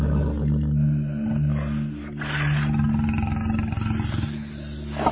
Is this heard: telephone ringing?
no